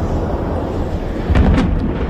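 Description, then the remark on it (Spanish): Intense Israeli bombardment explosions over the southern neighbourhoods of Beirut in the early morning before dawn: a continuous deep, loud rumble broken by two or three sharp, booming blasts in quick succession toward the end. No voices. “Y lo hace una madrugada más con el sonido de esos intensos bombardeos israelíes sobre los barrios del sur de Beirut, considerados el bastión de la milicia chií Hezbollah”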